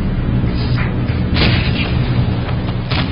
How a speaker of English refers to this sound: German anti-aircraft fire explodes under the B-17s.